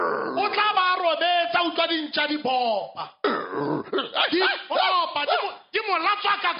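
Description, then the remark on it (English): A person's voice mimics the dogs in the area, letting out a rapid, loud string of growls, snarls and bark-like yelps, with only brief pauses over several seconds. “So the dogs in the area, he would be asleep and he would hear...”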